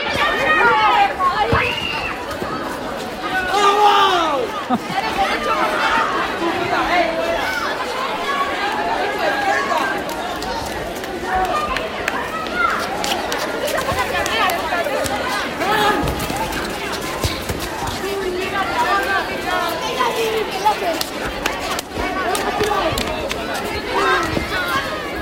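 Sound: children playing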